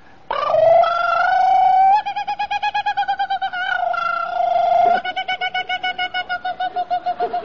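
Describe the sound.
A man loudly imitates a kookaburra call, alternating drawn-out high hoots with quick, rhythmic cackling bursts for several seconds, with no other speech.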